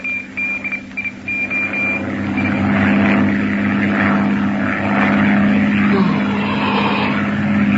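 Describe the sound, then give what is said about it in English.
A propeller airplane engine drones steadily and loudly in the fifth hour of a long flight, having burned about 300 gallons of fuel, a continuous low hum with a throbbing edge that holds constant throughout, with no voices present. “Engine's burned about 300 gallons so far.”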